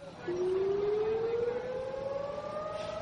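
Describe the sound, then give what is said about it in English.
A memorial air-raid siren sounds in Israel on Holocaust Remembrance Day, wailing steadily, its tone slowly rising in a long continuous sweep, loud and sustained, with a faint background hum and no voices. “As sirens begin to wail, people, wherever they are or whatever they're doing, will stop, even on busy roadways, as many will stand in silence to contemplate the 6 million Jews who were systematically killed by Nazi Germany.”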